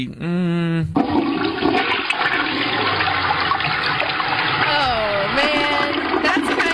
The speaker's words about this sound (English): We had to flush it on the toilet there